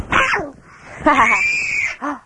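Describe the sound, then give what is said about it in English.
A person screams loudly in three bursts: a shrill opening cry, a long sustained high-pitched wail, then a short final yelp, all piercing with no talking. “You're loud. Don't scream.”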